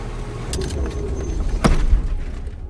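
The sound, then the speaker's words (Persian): A car's low engine and road rumble, with a few sharp clicks and rattles, as the driver pulls the car over and it comes to a halt. “خیلی خب باشه میگم میدارم.”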